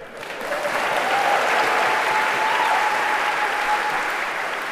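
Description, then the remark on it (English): Sustained audience applause, a dense, steady wash of many hands clapping that swells quickly and holds at a fairly loud level throughout, with no voices standing out. “And a round of applause for Dr.”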